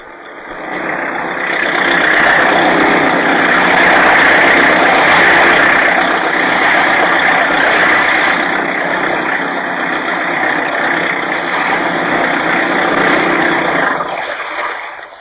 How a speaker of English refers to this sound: Fast boat, all right, …. You skimmed along that time. How fast at top speed? 40 miles an hour. Is that all? Isn't that fast enough for you? No, we should have done 50 easily with this new supercharger.